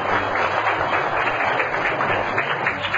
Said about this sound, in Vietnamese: Các bạn hãy cho một tràng pháo tay ha.